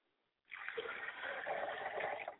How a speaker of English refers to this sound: I pour libation to the ground so that the water will hit there and take up root and spring up and grow.